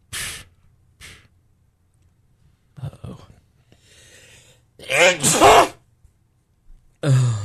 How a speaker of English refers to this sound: Bless you. My God blesses you.